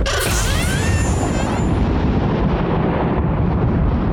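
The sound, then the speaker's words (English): A loud, thunderous magical blast of thunder energy, set off as a door is pushed open, bursts out with a crackling, whooshing high-end sweep, then settles into a deep, sustained rumble that continues to the end. “Of like thunder energy. All of you are thrown back.”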